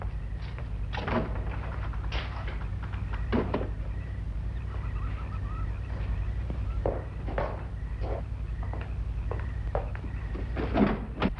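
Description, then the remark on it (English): A door swings shut, followed by a series of scraping clunks and rattles as it is locked from inside, set against a steady low background hum. “You know I'm not leaving here until you're locked safely inside.”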